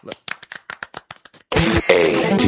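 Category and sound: crowd, golf clap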